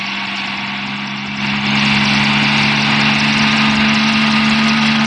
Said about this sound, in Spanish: Desde su improvisado refugio, el pequeño Solín y Omar Tayán pueden ver el helicóptero iniciar el descenso hacia Calimán.